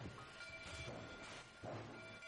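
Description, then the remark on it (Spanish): Steam train noise, a continuous hissing rumble with steady humming tones, swelling twice into louder puffs of steam. No voices. “Me encanta el sonido del vapor.”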